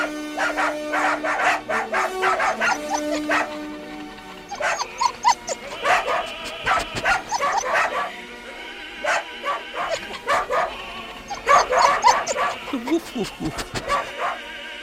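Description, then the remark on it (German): Several dachshunds bark and howl excitedly at a new horn in rapid, overlapping bursts, yipping and baying, with the horn's steady tone sounding underneath. “Dackeltruppe sind nun bei der neuen Hupe ganz aus dem Häuschen. Ja, können gar nicht genug davon bekommen und geben ihren hochmusikalischen Senf dazu.”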